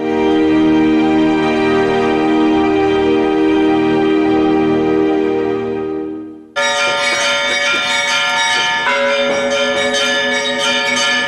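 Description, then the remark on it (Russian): Church bells ring loudly in the bell tower of the Spassky Cathedral during Easter celebrations, rung by members of the public, a dense continuous peal of overlapping strikes and long resonant tones, briefly fading before a fresh, brighter round of clanging bells starts again. “Продолжились пасхальные торжества на колокольне Спасского собора, где каждый желающий смог позвонить в колокола.”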